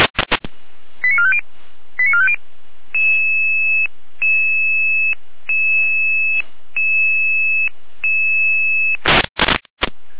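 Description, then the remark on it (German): Radio alerting tones for an emergency dispatch alerting Red Cross Saalfeld: quick bursts of stepped beeps, then a steady run of long, evenly repeated two-pitch tones, bracketed by sharp clicks of radio noise at the start and end. “Leiche in Alarmierung.”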